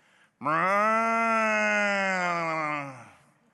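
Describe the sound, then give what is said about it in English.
A man's voice imitates a buffalo's lowing with one long, loud, droning moo that holds steady for over two seconds, then slides slightly lower and fades out. “I am a buffalo. I will greet you in the native tongue of my people.”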